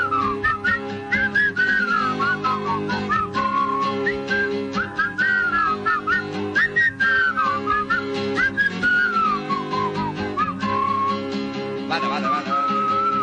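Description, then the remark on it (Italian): Someone whistles a lively, wandering tune for the full length, clear and fairly loud, over steady instrumental accompaniment underneath. “Fischi almeno vada.”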